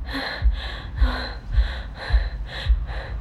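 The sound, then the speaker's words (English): A person gasps and breathes heavily in quick, ragged pulls, about six sharp breaths in a steady rapid rhythm, fairly loud, with no talking. “That's really good. Just keep breathing.”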